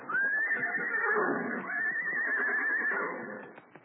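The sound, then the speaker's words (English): A horse whinnies loudly as horses are brought out, two long wavering neighs running almost back to back, then trailing off into faint snorts, with no one speaking. “Well, here he comes with the horses.”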